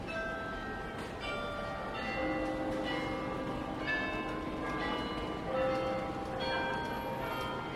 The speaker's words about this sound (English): And on the other hand, the Belfry Tower nowadays, it has a carillon inside. It has been in there for about 300 years. And the clocks, the bells that are in the carillon, and they play songs every quarter of an hour.